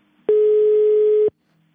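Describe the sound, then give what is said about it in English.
A single steady electronic ringback tone sounds on an outgoing call to Tom Barrack's cell phone, one clear hum-like burst lasting about a second, fairly loud, with quiet line hiss around it and no talking. “But Barrack's publicist said he wouldn't be interviewed, so I called his cell phone.”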